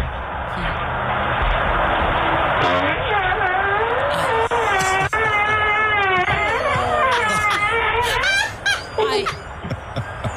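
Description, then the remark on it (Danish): A man passing wind as he steps out in front of his door, recorded by a video doorbell: a long, loud fart lasting several seconds, its buzzing tone wavering up and down in pitch before breaking into short sputters, over a steady background hiss. “og så kan man lette en vind”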